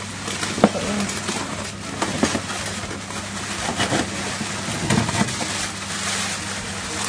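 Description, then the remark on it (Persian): A crinkly plastic freezer bag holding chicken breast, taken from the freezer, rustling and crackling steadily, with scattered sharper crinkles and a low steady hum underneath; no one speaks. “این کیسه که الان صداش رو هم میشنوید کیسه مختص سینه مرغ هستش که من یک سینه مرغ یه قسمتی رو که حالا بسته‌بندی کردم با توجه به مصرفمون جدا میکنم و بقیه‌اش رو هم گره میزنم”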